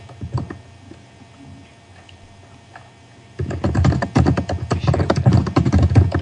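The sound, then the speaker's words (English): Fast typing on a computer keyboard as someone writes an intro: dense, irregular clacking that starts faintly, then turns loud and busy after a few seconds, with no voices. “Wow, that is some angry typing.”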